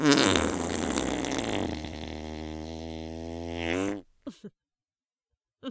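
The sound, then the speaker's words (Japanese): A long, loud fart buzzes and rumbles for about four seconds, wavering in pitch before cutting off, followed by a couple of brief, faint sputters. “興奮のあまり、思わずヘが出てしまった。”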